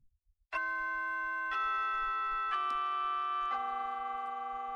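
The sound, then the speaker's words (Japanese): A school chime rings out loudly, four sustained bell-like tones stepping down in pitch about a second apart, each ringing on over the next, with a few soft taps just before it starts. “あ、チャイムが鳴ってる。”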